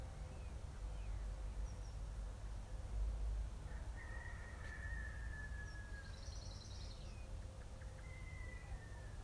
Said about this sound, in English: I hear the birds.